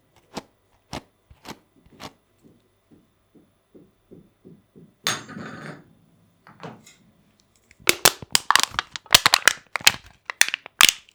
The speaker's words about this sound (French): Une canette.